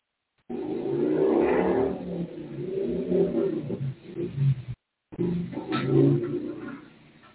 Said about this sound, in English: Oh, I missed the gear. It's too bad you guys can't hear that motorcycle like I hear them. Pretty powerful.